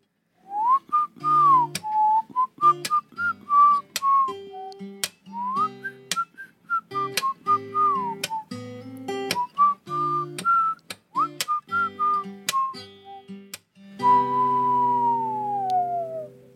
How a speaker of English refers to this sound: It starts with a whistle. Here we go.